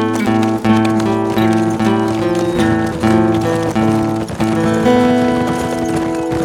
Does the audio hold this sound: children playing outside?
no